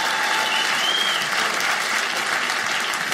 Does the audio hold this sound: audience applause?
yes